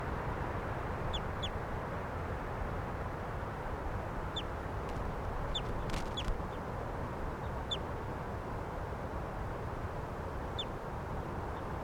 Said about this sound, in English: Some other birds in the background here.